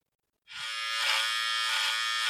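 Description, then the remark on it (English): Electric hair clippers switch on after a brief silence and hum with a steady, loud, bright buzz that holds unbroken to the end, with slight wavering in tone. “It's time for a buzz cut update.”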